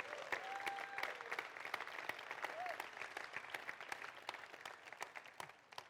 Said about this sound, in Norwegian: Og de har vi invitert for å være sammen med oss denne uka her, så gi dem en skikkelig god applaus.